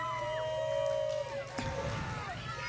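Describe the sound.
A parade crowd at Cruising the Coast yells and shouts over a steady low hum, their raised voices blending into faint, overlapping calls of a single name for a person riding in the back of a car, with a sharp burst partway through.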